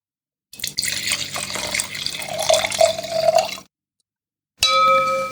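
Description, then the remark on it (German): Grauburgunder wine from Weingut Winter glugs and splashes as the last of the bottle is poured into a glass for about three seconds, the pitch climbing as it fills, followed by a short silence and a bright, sustained glassy ring. “Und den letzten Rest dieser Flasche, davon wurdest du gerade Zeuge, habe ich mir soeben ins Glas gegossen.”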